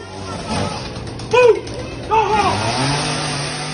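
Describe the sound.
A chainsaw engine revs in two sharp bursts, its pitch climbing and dropping, over a steady idling drone, with voices faintly audible in the background.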